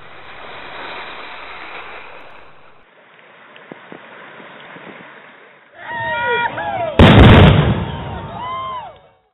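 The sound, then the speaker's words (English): Steady washing waves of Chesapeake Bay, Virginia, give way to the softer, trickling flow of the Bull Run stream near Manassas, then a single loud, deep replica cannon boom erupts and rumbles out amid high calling cries. “Chesapeake Bay waves, the flow of Bull Run near Manassas, and a replica cannon's boom frame the importance of Virginia within the National Park Service system.”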